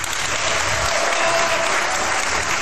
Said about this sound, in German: und ich hoffe, das Publikum wird dementsprechend applaudieren.